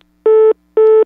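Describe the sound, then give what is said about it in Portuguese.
A telephone busy tone after someone hangs up the phone: two loud, steady electronic beeps of equal length separated by a brief gap, with no voices around it. “eu vou desligar o telefone”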